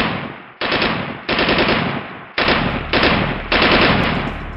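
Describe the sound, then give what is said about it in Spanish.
Loud, rapid automatic gunfire in several back-to-back bursts, each a dense, crackling rattle of shots that fades slightly before the next volley begins, with no voices, as the robber Matacerano fires a full 75-round magazine at a bank's safe. “En una aparente muestra de frustración, Matacerano disparó un cargador lleno de 75 balas contra la caja fuerte del banco.”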